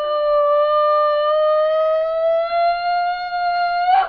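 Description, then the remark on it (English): A woman lets out one long, loud, piercing scream, held steady for about four seconds with a slight upward pitch, shrill and trumpet-like, ending in a ragged burst. No talking. “Then Ulupi screams like a wounded elephant.”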